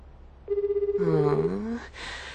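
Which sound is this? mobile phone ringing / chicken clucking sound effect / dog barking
mobile phone ringing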